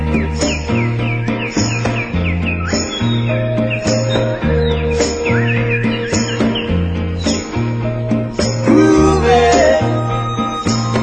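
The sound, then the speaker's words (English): A steady, grooving band with a thumping bass line, while high, warbling bird-like whistles and chirps repeat over the top, imitated by one of the musicians rather than real birds. “You know, he even did the bird sound.”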